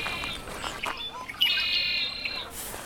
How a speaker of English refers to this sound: bubbly, bubbly, and it goes eek at the end. That's about 50 notes in 1 second, that house wren. If you look at the sonogram, here it is right in front of us, just bubbling away.